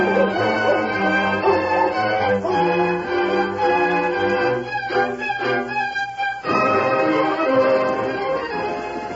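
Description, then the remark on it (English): A hound on a leash bays and whimpers almost continuously as it picks up and follows a scent, its drawn-out, wavering cries loud, with a brief pause before the yelping resumes. “give the hound a whiff and see if he can get a scent and follow it”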